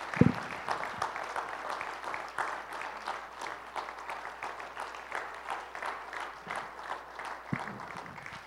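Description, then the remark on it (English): A church audience applauds all mothers on Mother's Day, many hands clapping in a dense, even patter that holds at a moderate level for several seconds without any speech over it. “Can we give all of our mothers a hand?”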